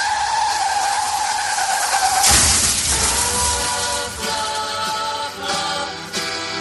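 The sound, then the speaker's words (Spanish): Car tires screech in a sustained, high-pitched skid for about two seconds, then a loud crash bursts out as the car collides head-on with another vehicle in Alfarnatejo, Málaga. Rattling, scraping debris and a few smaller clanks follow. “Lo estaría desde el instante en el que su coche chocó frontalmente contra otro vehículo.”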